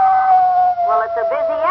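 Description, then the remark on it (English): A long, steady howl of a male timber wolf holds one high, mournful pitch throughout, loud, while a second wavering, voice-like cry rises alongside it in the latter half. “Now, that was the male, or the buck wolf.”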